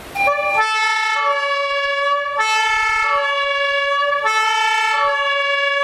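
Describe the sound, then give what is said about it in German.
A loud fire engine siren blares in a two-tone pattern, switching back and forth between a higher and lower pitch every second or so, with a bright horn-like tone, as the fire engine drives with blue lights to an emergency. “Mit Blaulicht und Sirenen geht's zum Einsatzort.”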